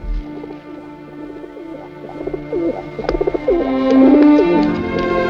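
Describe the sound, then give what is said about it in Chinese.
Several pigeons coo in soft, throaty overlapping calls, a continuous murmuring chorus with a few slightly louder coos standing out near the end. No one speaks. “灰雨点儿在杜安的鸽子群里是他最喜爱的，可是为了天天，他只能忍痛出让。”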